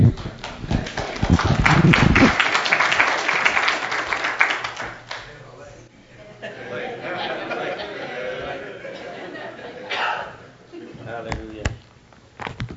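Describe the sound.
A crowd bursts into loud clapping and cheering that peaks in the first couple of seconds, then settles into a murmur of scattered applause and chatter, with a few voices rising near the end.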